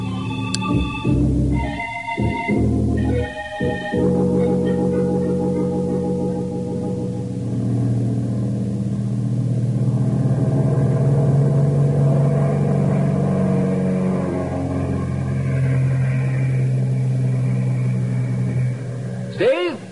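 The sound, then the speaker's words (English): An airplane engine drones steadily and builds in power during takeoff from a runway for a 5-mile circle flight, its low hum rising slightly in pitch over about twenty seconds, after a few short sputtering bursts at the start. “Take off and fly a 5-mile circle and land.”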